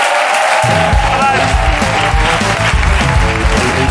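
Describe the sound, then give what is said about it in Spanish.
The audience of the show La Resistencia bursts into loud, sustained applause and cheering, an ovation for author Javier Castillo: a dense wash of clapping that holds steady for several seconds, with some voices mixed in. “Pero por lo pronto, pido un aplauso, una ovación para Javier Castillo en la Resistencia.”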